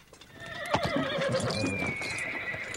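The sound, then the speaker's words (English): A horse lets out a long, wavering whinny while hooves clip-clop unevenly beneath it, steady in loudness, with no one speaking. “puts on his cap, picks up his saddle pack, and wanders back to his horse.”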